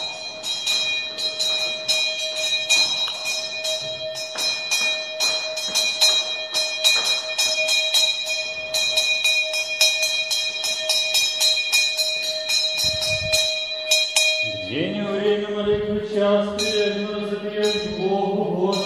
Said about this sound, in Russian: Вот это участие в молитвах, это бдение, этот колокол, который будил на молитву, не забуду никогда.